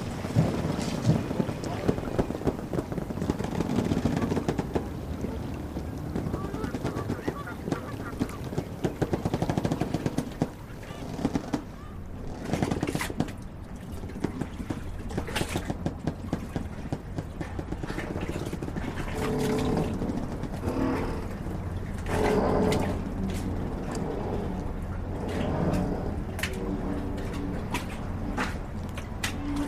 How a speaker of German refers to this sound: für den Deutschlandfunk eine Soundcollage des Hafens zusammengestellt. Ja, mit Möwen.